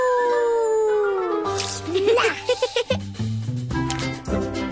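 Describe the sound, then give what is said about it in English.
A voice lets out a long, drawn-out roar that slides downward in pitch, imitating a dinosaur, followed by a busier stretch of clattering, rhythmic sounds. “Roar. A dinosaur wildlife park.”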